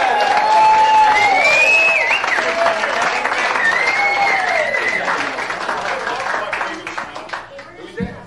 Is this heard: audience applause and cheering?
yes